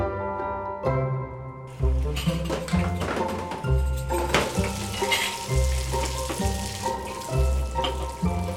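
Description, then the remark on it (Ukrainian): Running water splashes steadily as dishes are washed, starting after a brief quiet moment and continuing throughout, with rhythmic background music playing underneath. “Давай ми самі помиємо посуд, а ти вдягайся.”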